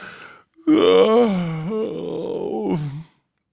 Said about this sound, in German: Thaddäus gähnt. Prompt gähnen Kira, Basti, Rieke und Branko ebenfalls.